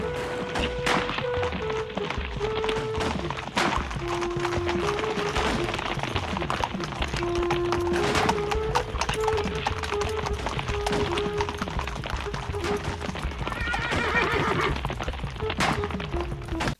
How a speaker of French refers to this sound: Le silence du désert, les cavaliers au grand galop, les coups de feu, les Arabes, les chasseurs d'Afrique, les visages de ses camarades courant au combat.